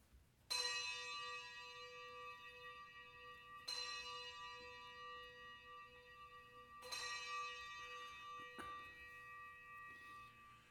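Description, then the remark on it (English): Three deep, resonant bell strikes spaced a few seconds apart, each ringing out with long shimmering overtones that slowly fade, plus a softer tap near the end. No voices. “Let us ring the bells of affirmation.”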